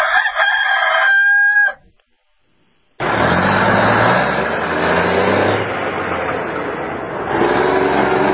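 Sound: rooster crowing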